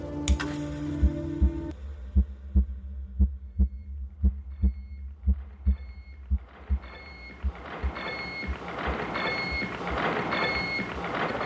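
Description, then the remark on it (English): The SAGE computer gives off a steady, heartbeat-like thumping pulse, about two beats per second over a low electrical hum, while a dense mechanical whir swells up and partly buries it. “You are listening to the heartbeat of the Sage computer.”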